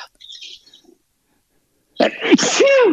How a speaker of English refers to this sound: I'm going to have to sneeze. Sorry. Oh, no, I can't. Oh, I hate that. I hate that.